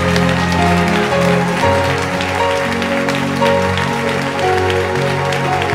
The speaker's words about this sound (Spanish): Y alguien dele su mejor aplauso a la gloria de Dios.